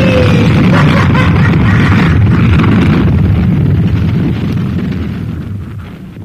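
A bomb explosion: a loud, deep roaring rumble that rolls on for several seconds and slowly fades, with no voices.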